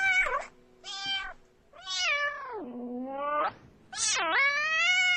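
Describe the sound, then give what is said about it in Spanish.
A cat meows insistently at a door as it is opened, in a series of long, drawn-out, complaining yowls with rising and falling pitch, fairly loud, with brief pauses between calls and no talking. “Y toda esta conversación la tuvo cuando abrió la puerta el gato.”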